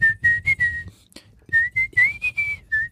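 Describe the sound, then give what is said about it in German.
A person whistles a song melody, clear and fairly loud, in two phrases of short sliding notes separated by a brief pause, with no talking. “Ich wollte pfeifen.”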